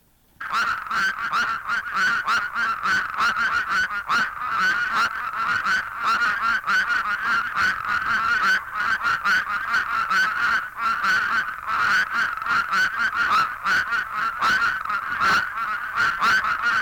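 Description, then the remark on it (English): A dense chorus of plain spadefoot toads (Scaphiopus bombifrons), loud, overlapping nasal, honking calls repeating without pause for the whole clip; in the foreground a duet, one toad's call immediately followed by another's at a lower pitch, stands out above the steady mass of voices. “In a chorus of the plain spadefoot, Scaphiopus bombifrons, a duet can be heard in the foreground with the call of one spadefoot immediately followed by that of another at a lower pitch.”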